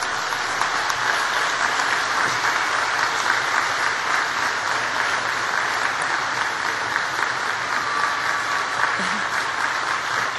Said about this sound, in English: And class of 2015, I want you all to stand up. All of you, please stand up so that you can turn around and give a big round of applause to the people who have supported you.